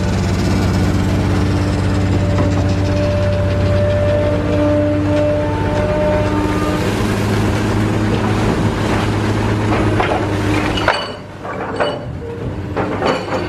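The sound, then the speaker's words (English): A backhoe engine drones steadily and loudly as the backhoe pulls up water lilies and dumps them into a truck, a continuous low rumble with humming tones; near the end it dips briefly, then picks back up with clanking and revving. “over here they're using a backhoe”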